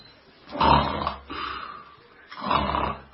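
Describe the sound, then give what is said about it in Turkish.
Two long, rasping snores about two seconds apart, each a rough rattling inhale, fairly loud with quiet breathing between; it may be a person imitating snoring. “Aynen bunun gibi horlarken horlamanı duymuyorum.”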